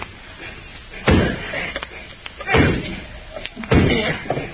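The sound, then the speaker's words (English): A hammer, with burlap over it to keep it quiet, drives a chisel against a lock on a door to break it off, in three heavy, dull whacks spaced roughly a second apart, with faint clicks and taps in between. “Yeah, it's starting to give. A couple more whacks will do it.”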